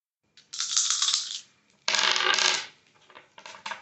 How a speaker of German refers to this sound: Und du darfst mal anfangen, mach mal eine 3W20-Probe. Ich darf mal würfeln.